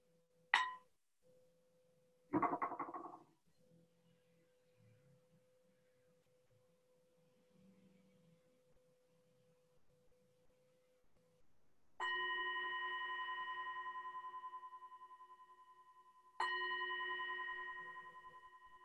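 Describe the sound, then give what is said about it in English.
A ritual bell, rung to open a Buddhist retreat dedication ceremony, is struck twice, several seconds apart, each strike ringing out loud and clear with layered tones that fade slowly. Earlier come a brief clatter and a faint steady hum. “So my first gesture, my first symbol of the ritual will be to ring a bell.”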